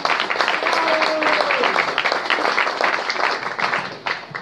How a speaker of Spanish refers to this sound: Bueno, otro aplauso.